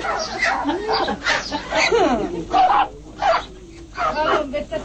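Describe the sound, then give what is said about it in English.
Geese shriek and honk in pain as workers tear out their feathers and down, harsh overlapping cries rising and falling in rapid bursts, loud and continuous throughout with no pause. “The workers seem deaf to the screams of pain of the geese.”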